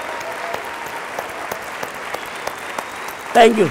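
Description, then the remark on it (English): Sustained applause from One Young World delegates at the Young World ceremony, following Desmond Tutu's address: a dense steady patter of many hands clapping, with a burst of louder cheering or voices rising near the end. “So, please join me in clapping some of the most fantastic human beings in the world.”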